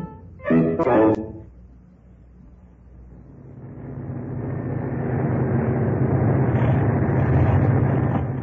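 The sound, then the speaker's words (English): A faltering aircraft engine drones, swelling from quiet to a loud, rough, steady roar that fills the background, with a short vocal burst near the start. “What's that noise? Sounds as if something's gone wrong. What of the engine?”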